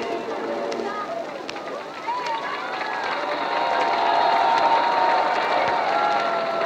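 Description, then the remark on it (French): A large street crowd of several thousand people below the radio building at 118 Champs-Élysées roars in a dense, steady wash of many voices, shouts and cheers blending together, swelling louder midway and holding at that level to the end. “en bas du bâtiment de la radio du 118 Champs-Élysées, ce sont plusieurs milliers de personnes qui sont groupées pour attendre les dernières nouvelles.”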